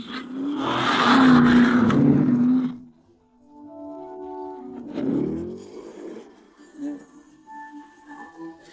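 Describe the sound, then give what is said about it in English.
The engine of a replica of Ken Block's rally car roars loudly for a few seconds with a gritty, revving growl, then drops to a low idle before short bursts of revving return, with voices faintly in the background. “That's a Ken Block's car, right? Yeah, it's a replica of it.”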